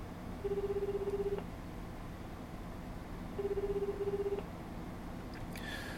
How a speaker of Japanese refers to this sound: 全く着信メロディーもバイブレーションも鳴りません。電話は呼び出し続けています。